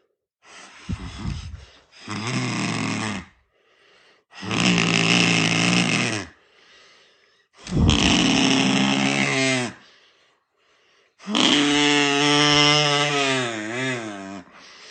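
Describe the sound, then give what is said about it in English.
A kazoo buzzes out a dinosaur impression in four long, loud blasts separated by short pauses, with raspy growling tones and a wavering, rising-and-falling pitch in the final roar. “A dinosaur? That's really one? Okay, a dinosaur.”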